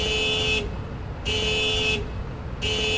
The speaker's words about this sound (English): Outside, a car alarm fills the air with no owner in sight.